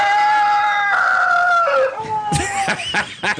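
A rooster crows in one long, strained, wavering call that breaks down and sputters raggedly toward the end, loud, with no talking.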